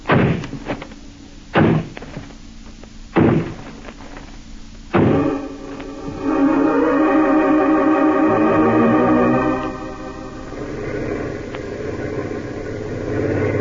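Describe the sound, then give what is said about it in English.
The door of a dance hall and tavern is battered by men smashing it down, four heavy, booming blows spaced a second or two apart, then a loud, sustained droning tonal sound takes over and slowly fades. “All right, men. Smash down that door.”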